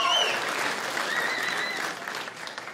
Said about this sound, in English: My parents, though, they just celebrated 48 years of marriage. That's something to clap about.